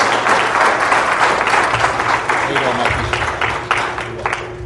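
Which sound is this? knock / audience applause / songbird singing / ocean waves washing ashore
audience applause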